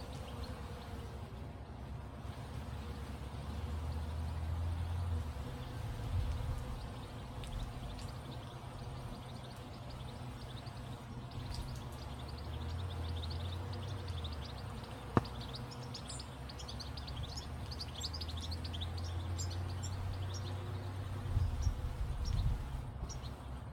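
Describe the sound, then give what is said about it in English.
Several birds sing at the Slapjack Vineyard from Terra Sancta in central Otago, New Zealand, a busy overlapping mix of high chirps and trills running throughout over a steady low hum, with one sharp click partway through and no talking. “You can hear several birds singing their songs.”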